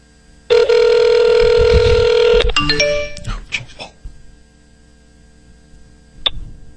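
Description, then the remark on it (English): A loud, steady electronic telephone ring tone on an outgoing call holds for about two seconds, then breaks into a quick run of shorter stepped tones before fading, with one faint beep near the end. “Your call has been forwarded.”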